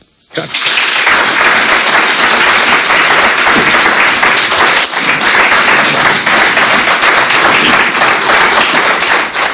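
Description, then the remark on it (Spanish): A loud, sustained ovation for outgoing Cambre mayor Óscar García Patiño after his farewell speech bursts in after a brief quiet moment, dense clapping from a large crowd filling the space steadily until the end. “Pues esas sean las palabras y la ovación final a Óscar García Patiño en esa despedida.”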